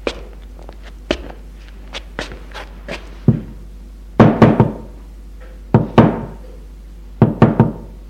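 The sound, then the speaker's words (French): Knocking on a ground-floor door: a few scattered light taps, then three firm bursts of quick, loud raps, each a cluster of two or three knocks, with no voices. “A frappé à la porte du rez-de-chaussée, la porte s'ouvre.”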